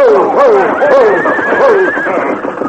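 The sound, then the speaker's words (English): Horses of a frenzied, racing team whinny and neigh in loud, overlapping calls as the Lone Ranger and Tonto grab their bridles, their voices sliding up and down in pitch, with a steady rumble of hooves and commotion underneath. “As Silver moved in beside the frenzied team, the Lone Ranger reached out to grab one bridle, while Tonto grabbed the bridle of the other horse.”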